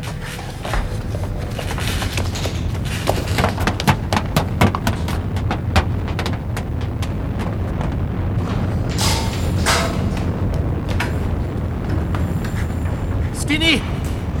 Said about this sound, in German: Die Treppe ist eingestürzt.